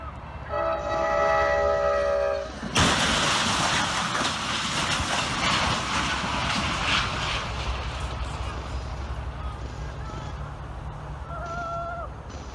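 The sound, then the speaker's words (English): A train horn blares for a couple of seconds, then a loud rumbling roar of the train rushing along the tracks fills the rest, with a faint horn tone returning near the end. “There he is, trying to get the attention of the train.”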